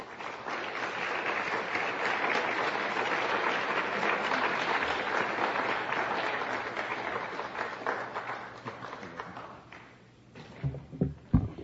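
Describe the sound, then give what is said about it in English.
A crowd applauds steadily for about nine seconds to welcome speaker Dr. Stephanie Seneff before her talk, a dense wash of clapping that fades out, followed by a few scattered thumps and taps as the noise dies down. “Please give a warm round of applause to Dr. Stephanie Seneff.”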